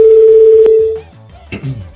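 A loud, steady telephone tone hums for about a second, broken by a single click, then cuts off, leaving a quiet line with a brief muffled voice-like sound near the end.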